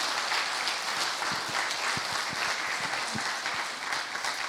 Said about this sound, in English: With the teams we have, with the worship team, the tech teams, our greeters or ushers. Can we just give everybody just a round of applause for all that they do?